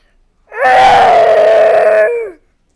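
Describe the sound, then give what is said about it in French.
A single drawn-out roar, loud and sustained for nearly two seconds, delivered by a human voice imitating a lion that keeps roaring and circling, with a strained, wailing tone that rises then trails off. “Il continue de rugir et de tourner en rond.”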